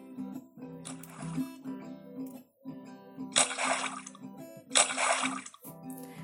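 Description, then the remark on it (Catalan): A few bright, noisy splashes of jumping into water in play, one brief and two longer bursts, over a steady background of soft music. “Jugaven a tirar-se a l'aigua.”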